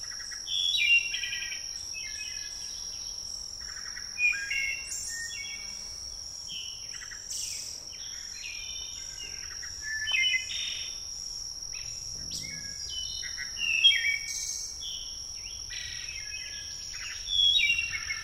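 A wood thrush sings a series of clear, fluting phrases with short pauses between them, over a steady, high-pitched drone of insects. Nobody is talking.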